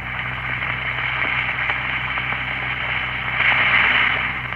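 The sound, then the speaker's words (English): Steady, crackling fizz of two Alka-Seltzer effervescent tablets dissolving in a glass of water, a continuous bright hiss with tiny pops over a low hum, swelling slightly toward the end. “Drop two tablets into a glass of water like this. Listen for a moment to that famous fizz.”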